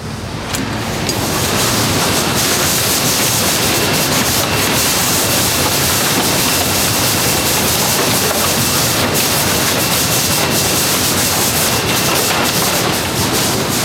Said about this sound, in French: Ça, c'est celle qui souffle. Oui, voilà, là on entend tous les petits jets d'air qui permettent de séparer les objets. C'est le fer optique, hein, là, qui... c'est vraiment le fer optique, tous les petits jets d'air qui permettent de séparer